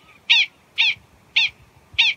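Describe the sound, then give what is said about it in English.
Prairie dog alarm calls: four sharp, high-pitched chirping barks repeated at a steady rhythm about every half second, loud and clear with no voices over them. “There could be alarm calls.”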